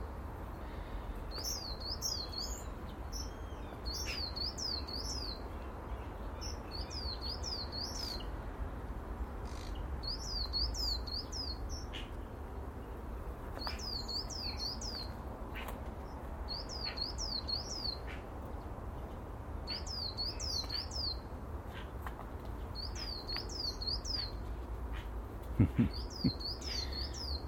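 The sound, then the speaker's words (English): A bird repeats short bursts of high, rising-and-falling chirps, three or four notes per burst, every couple of seconds over a steady low background rumble. Nobody speaks. “I'm just watching the activity of the birds.”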